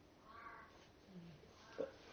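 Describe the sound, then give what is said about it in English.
A crow caws a few times outdoors, harsh calls rising over a faint background hum, with a sharper, slightly louder caw near the end. “Even the crow agrees. You can hear him out there.”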